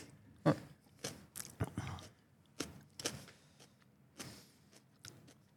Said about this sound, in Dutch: Ze neemt nog een hap.